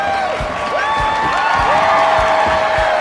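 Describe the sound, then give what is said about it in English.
A large audience applauds and cheers loudly for an encore, with piercing whistles and steady rhythmic thumps like stomping feet beneath a continuous wash of clapping. “They're calling for an encore.”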